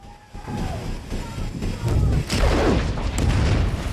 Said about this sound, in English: Two huge explosions send men diving into the water and swimming for their lives as the ship starts to sink beneath the surface.